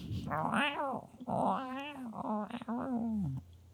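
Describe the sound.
A voice imitates a growling stomach with drawn-out, wavering yowls and groans, three or four moaning bursts in a row, fairly loud, with no words spoken.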